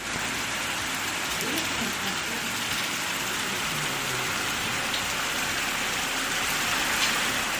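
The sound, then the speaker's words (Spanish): Heavy rain and hail from strong storms pour down in a dense, unbroken hiss that stays loud and steady throughout, with a low rumble of water rushing through streets turned into rivers, in Carbonero el Mayor, Segovia, Spain. “En menos de media hora vieron cómo, por culpa de las fuertes lluvias y granizo, sus calles se convertían en ríos.”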